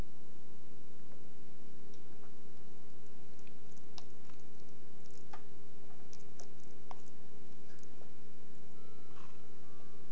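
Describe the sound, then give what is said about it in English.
A clock ticks with soft, sharp clicks, some irregularly spaced, over a steady low mechanical hum. No one speaks. “Oops, is that the clock? Yeah. That's the clock.”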